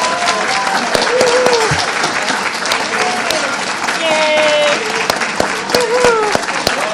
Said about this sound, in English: I'd like everyone who is a first-timer to this convention, I'd like you to stand and then everybody clap, because I want people that can see to recognize you so they make an effort to get to know you.